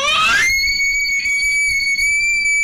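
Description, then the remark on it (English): A girl lets out a loud, shrill scream that swoops upward and then holds one piercing, steady high note for about two seconds, with no talking over it. “She screamed and then...”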